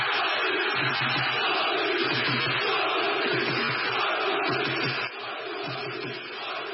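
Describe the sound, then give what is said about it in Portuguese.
A dense crowd of Sporting football fans in Lisbon, Portugal, roars and shouts in celebration of the league title after a 1-0 win over Boavista, a loud continuous wall of voices with rhythmic chant-like swells, dipping slightly in volume near the end. “Em Portugal, após 19 anos de jejum, a duas jornadas do fim do campeonato, os adeptos do Sporting puderam começar a gritar.”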